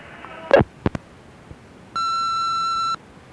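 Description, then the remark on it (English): A few sharp clicks and thumps, then a single steady, clear electronic beep of about a second: an answering machine's record tone as it answers a phone call. No one speaks. “when your answering machine answers the phone, why does it say,”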